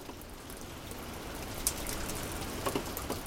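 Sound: steady rain falling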